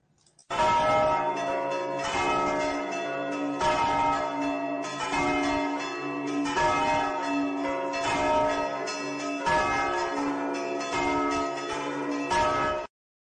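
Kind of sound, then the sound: signal or alarm, easter church bells ringing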